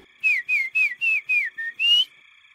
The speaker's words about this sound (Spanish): No puede ser el silbido